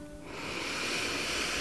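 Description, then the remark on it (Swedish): A single deep breath drawn in through the nose, building from quiet into a steady, airy hiss that sustains with no talking. “Och du kan ta ett djupt andetag in genom näsan.”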